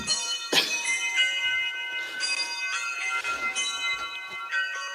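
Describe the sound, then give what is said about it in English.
Several bells ring together in overlapping, sustained peals with bright metallic overtones, struck repeatedly every second or so and lingering into one another, fairly loud and continuous with no voices. “Cause yes, because the bells are playing. And those are the real bells.”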